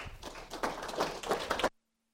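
A short burst of audience applause, many hands clapping in a dense, uneven patter for under two seconds before cutting off abruptly into silence. No one speaks.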